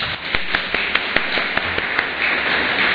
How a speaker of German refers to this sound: Fand ich richtig schön. Super, vielen Dank dafür. Kann man auch mal klatschen, ne?